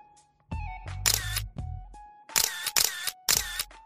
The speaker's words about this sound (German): während er mit seiner teuren Kamera Bilder von mir machte.